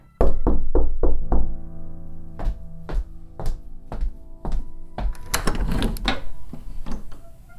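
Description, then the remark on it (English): A rapid burst of about five sharp knocks on the door of a farmhouse on a Texas ranch, then a slower, evenly spaced series of solid thuds, ending in a busier clatter. Fairly loud, with no voices. “I guess we just wait and see what she's got to say. If she ever comes to the door, that is.”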